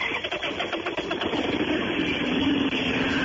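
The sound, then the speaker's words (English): A motorcycle engine sputters to life with a few rough bursts, then settles into a steady idle that rumbles on continuously. “Start his motorcycle?”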